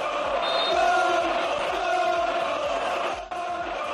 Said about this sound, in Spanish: Gritos de tonto, tonto para Vinicius.